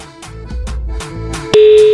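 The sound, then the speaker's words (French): A steady electronic telephone ringing tone on an outgoing call starts abruptly after a stretch of muffled background noise and holds loud and continuous to the end. “Voilà, première sonnerie.”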